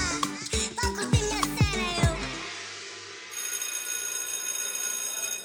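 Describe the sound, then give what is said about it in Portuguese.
A school bell at the Ipofé school rings for the main break in a quick, loud run of bright metallic strikes that fade away after a couple of seconds, leaving a soft background hiss with a faint high whine. “Toca para o intervalo maior e os alunos de Ipofé saem das salas, uns para o pátio e outros para a cantina.”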